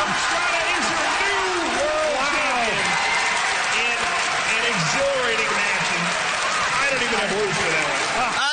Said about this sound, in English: Did you hear the crowd? It sounded like 10,000 people.